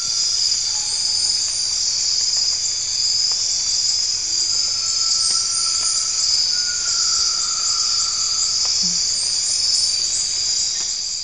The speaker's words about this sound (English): Oh, this is Amazon. Amazon Chorus. And the first one is with jet. So let's listen to that. Amazon Chorus without jet. Let's listen to that.